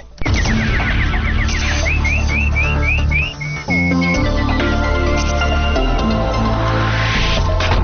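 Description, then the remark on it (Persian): A nightingale chirps in quick runs of short rising notes, then a few longer upward whistles, introducing a news segment, set against a loud, dense musical backing that fills the whole clip. “اینک مشروع خبرها با چهچهی همکارم بلبل.”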